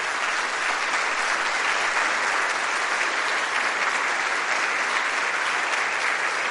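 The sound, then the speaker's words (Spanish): Sustained audience applause for the Lord Jesus Christ at night fills the whole stretch, a dense, steady wash of many hands clapping at an even loudness with no voices standing out. “Denle un aplauso al Señor Jesucristo en esta noche.”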